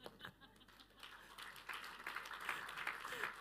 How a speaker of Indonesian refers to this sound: Saya tuh tahu saudara tepuk tangan, tapi kok tepuk tangannya buat daleman gitu ya saudara.